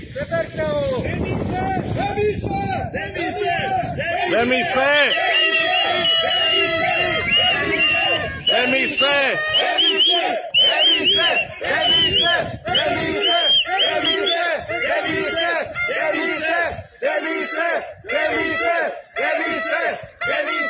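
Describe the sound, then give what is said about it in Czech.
A large outdoor crowd of protesters in Otrokovice shouts in loud, rhythmic bursts, many voices chanting together with steady pauses, while wind buffets the microphone in the first few seconds. “A tady máme ukázku, jak jim ti lidé tleskají.”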